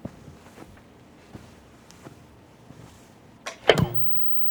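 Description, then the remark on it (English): A few faint, soft footsteps at an uneven pace, then a sudden loud click and crackling burst with a brief buzz as an old analog television switches on. “Next, we hear footsteps followed by the sound of a television being turned on.”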